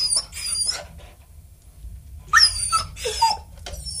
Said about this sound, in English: I reckon that's your poodle, Scott. Am I right or am I right? No, you're wrong. It was a beagle.